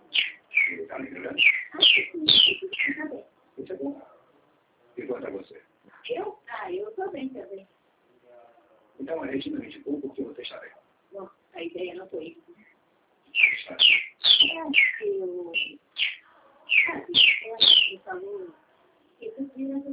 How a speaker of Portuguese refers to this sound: O passarinho é teu? É. Difícil ouvir passarinho, né?